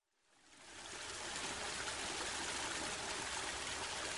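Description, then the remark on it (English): The White River near Kentucky Avenue in Indianapolis flows steadily with a broad, continuous rushing sound that fades in over the first second and then holds at an even level, with no voices. “my piece for Sound Expeditions is the White River.”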